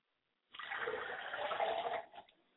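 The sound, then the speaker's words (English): A steady, broad splash of water being poured onto the ground as a libation toward the west, lasting about a second and a half, then tapering off into a few final drips. “I pour libations to the west, and I say, Ashe.”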